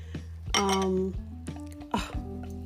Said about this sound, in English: Well, there's the Scarletto. That's the Scarletto being opened. That is a Cooper's Hawk brand red wine.